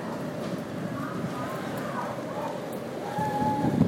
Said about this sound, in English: And the rain's lightened up quite a bit, but it's still raining. Maybe more in a bit. We'll see what happens.